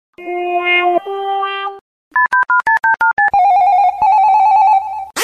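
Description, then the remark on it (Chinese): A mobile phone call sequence on the China Mobile network: a short electronic tone phrase, a quick run of keypad beeps, then a steady, loud ringing tone held for nearly two seconds, with no voices. “这个电话打通好不好？”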